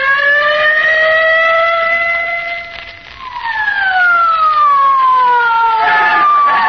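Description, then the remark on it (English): A loud police squad car siren wails steadily as the car hurries to 79 Wistful Vista, each long tone sliding slowly downward before a fresh rising cry starts and falls again. No one speaks over it. “Get in the squad car quick”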